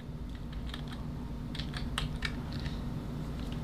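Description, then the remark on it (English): Quick, irregular clicks of someone typing on a computer keyboard, with short bursts of keystrokes over a steady low background hum and no voices. “I'm typing something here.”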